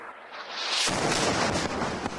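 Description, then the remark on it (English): During a live TV news report in Nabatea, Lebanon, a sudden, powerful explosion erupts after a moment of quieter hiss, its roaring blast filling everything with dense, rumbling noise that stays loud and harsh until the end, as the signal is lost. “A news reporter from Hezbollah's Al-Manar TV is at a location in Nabatea, Lebanon, Sunday, holding a microphone when suddenly there's an explosion and the signal is lost.”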